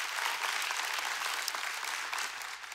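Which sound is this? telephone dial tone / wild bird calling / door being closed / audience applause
audience applause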